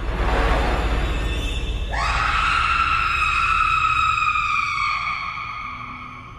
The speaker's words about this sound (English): Zoe hears her mother screams from her hiding place inside the vent shaft.